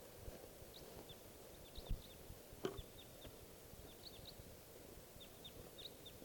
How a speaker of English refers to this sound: It's 7:39. PM and there's a wild type 4 crossbill around here. And it's coming into the decoys now.